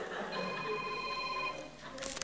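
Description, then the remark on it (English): The speaker's phone ringtone sounds during a talk for about a second and a half with steady electronic tones, clear, then breaks off into a few brief clattering noises as the call is taken. “Everyone, did you check your phones this morning?”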